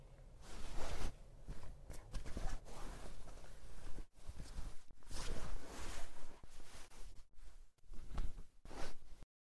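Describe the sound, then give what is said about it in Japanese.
Continuous rustling of fabric as someone changes into a school uniform, with shifting bursts of cloth movement and what sounds like a zipper, and brief quiet gaps in between. No one speaks. “じゃあ私はまずは制服に着替えちゃいますね”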